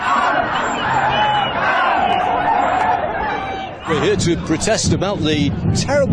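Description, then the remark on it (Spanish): A dense crowd of thousands of protesters outside the Conservative party conference shouts and chants continuously against austerity policies and the Conservatives' Brexit stance, a loud wash of many overlapping voices, with sharper individual yells and cries rising out of the din in the second half. “fuera de la conferencia miles de personas gritaron contra las políticas de austeridad y la postura de los conservadores sobre el Brexit.”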